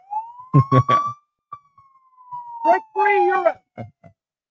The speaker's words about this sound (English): I'll give myself the siren.